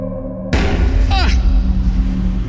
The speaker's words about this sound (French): quelque chose percute violemment l'arrière de la voiture.